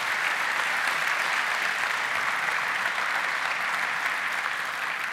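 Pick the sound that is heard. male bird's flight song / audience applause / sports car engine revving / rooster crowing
audience applause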